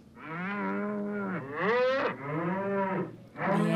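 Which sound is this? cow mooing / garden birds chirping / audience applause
cow mooing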